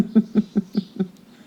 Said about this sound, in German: Ich glaube, jetzt hast du die Vögel gehört, ne?